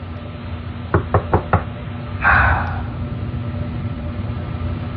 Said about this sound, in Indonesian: Permisi, room service. Ketika aku akan mengetuknya lagi, tiba-tiba terdengar suara pintu terbuka.